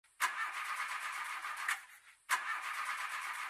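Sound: car engine starting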